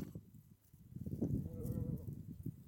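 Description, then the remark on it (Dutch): A sheep on a sheep farm, after lambing season, gives one wavering bleat over a low rumbling barnyard background, with fainter animal noises around it. “Zijn alle schapen inmiddels bevallen? Ja, alle lammetjes die zijn er nu.”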